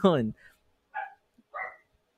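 The speaker's own dog barks three times in quick succession: a loud first bark, then two shorter, softer yaps spaced about half a second apart, with no other sounds around them.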